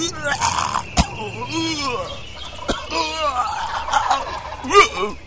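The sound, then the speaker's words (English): A person mimics a turkey's gobble during turkey hunting time, a rapid, warbling, rattling call repeated across several seconds, fairly loud, broken by a couple of sharp clicks. “Now here it is, time to hunt turkeys, goblin time, and he's up there on the side.”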